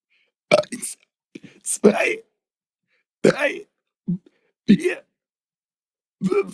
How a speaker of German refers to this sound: Dann möchte ich, dass du bis 10 rülpst.